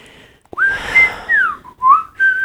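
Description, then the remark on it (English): A person whistles a short, bright tune, a handful of sliding, wavering notes rising and falling in quick succession with no one talking. “That was pretty good. Not as good as Mike, but good.”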